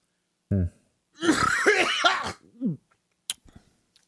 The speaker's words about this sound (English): Sorry about that. Got a cough. Tell you, got a little cough.